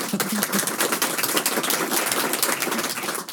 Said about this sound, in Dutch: Het is altijd ineens een enorm geluid, hè? Zo ineens dat applaus. Wat naar zo'n heel rustig gedicht.